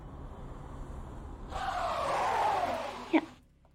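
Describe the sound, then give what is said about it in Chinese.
A car brakes hard and suddenly, stopping in a small alley: a rising, screeching whine of tires for about two seconds ends in a sharp jolt, then quiet. Road noise hums faintly underneath; no one speaks. “干嘛突然急刹车？”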